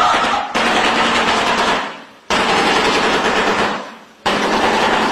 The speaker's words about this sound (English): Are they lighting off fireworks? I know. It does sound like that. It is a terrifying shoebill bird, which is... It's extremely large bird, and it's got a huge beak, and it looks like it could literally eat you. So it's clacking its beak together.